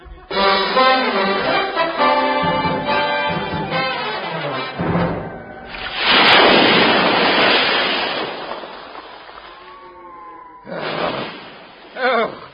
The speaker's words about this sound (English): I've never had it as bad as this before. Oh, dear. Oh, the wind must be 40 knots at least.